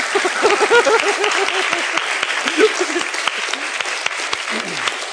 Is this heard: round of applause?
yes